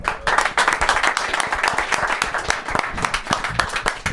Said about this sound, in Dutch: En het hele dorp even laten weten dat wij kampioen zijn geworden. Juist. Goed zo. Ja, top. Nou, applaus.